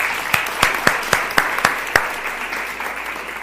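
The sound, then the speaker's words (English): Audience applause as two performers are welcomed up to kick off the show: a dense wash of clapping with several sharper individual claps standing out early on, then thinning and fading over the last second or so. No one speaks. “And the applause has run out, but it needs to keep going”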